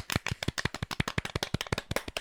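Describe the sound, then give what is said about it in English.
A small group claps together on a count as a do-it-yourself applause sound effect, producing a quick, uneven run of sharp hand claps, roughly a dozen per second, steady in loudness for a couple of seconds with no talking. “We also have an applause sound effect.”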